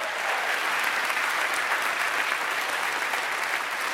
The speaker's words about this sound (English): Come on, let's give a clap unto the Lord.